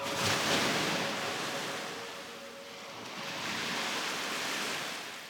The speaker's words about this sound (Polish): I ten szum fal, tak.